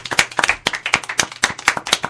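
A short burst of applause from a small group, with a steady patter of hand claps, fairly loud throughout. No one speaks over it. Applause on the Radio Tarumba programme for a contestant who guessed the film Jurassic Park.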